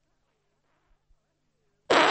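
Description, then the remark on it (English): A sudden, loud fart bursts out at the very end after near silence, harsh and raspy, and cut off abruptly. “I farted. I didn't mean to fart. It was so loud.”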